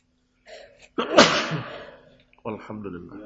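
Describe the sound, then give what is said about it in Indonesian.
A single loud sneeze bursts out with a sharp breathy explosion, preceded by a brief inhale and followed by a man speaking briefly. “Alhamdulillah. Yahdikumullah aslih wa'alaikum.”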